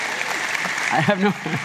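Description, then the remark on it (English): A crowd in Austin applauds to say hello to listeners in Philadelphia. The clapping is a steady, dense wash that holds for the whole stretch, while a voice speaks briefly over it near the end. “Everybody want to clap?”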